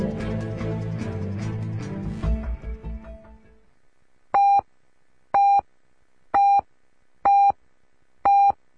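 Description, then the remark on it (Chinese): Music fades out, then a radio hourly time signal, presented by the Guanghua Audi city showroom, marks 4 p.m.: five loud, identical mid-pitched beeps, each brief and spaced about a second apart, with silence between them. “广华奥迪城市展厅为您报时。”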